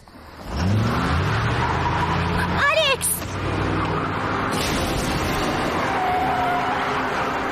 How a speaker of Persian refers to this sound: یه ماشین 4 در تیره بود. اون آقای برنارد بود، میخواست ما رو زیر بگیره